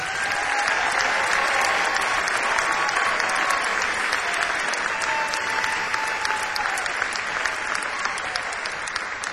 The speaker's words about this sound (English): We bring you and hope you will give a nice round of applause to the great